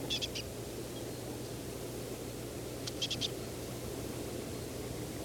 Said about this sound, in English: Aiming at the bird that appears to be making this call. I've gotten within 3-4 meters. It's foraging in pine near needle tufts.